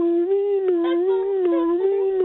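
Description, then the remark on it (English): A voice imitates an ambulance passing by as a background noise for a scene, with a sustained, wavering hum that rises slightly in pitch a couple of times over about two seconds. It stays loud and steady throughout, with no talking. “Okay, can we have very, very, very, very quietly in the background, can we have an ambulance passing by, please?”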